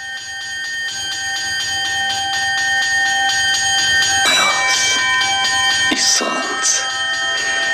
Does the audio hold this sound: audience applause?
no